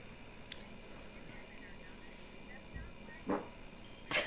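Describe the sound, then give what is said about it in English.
A dog barks twice, short sharp yelps about a second apart, toward the end of an otherwise quiet, faintly murmuring room; the barks are moderately loud. “Who was that? …. Dog.”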